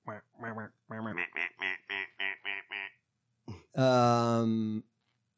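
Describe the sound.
A rapid run of about nine short, nasal duck quacks, followed after a brief pause by one long, drawn-out quack, all fairly loud.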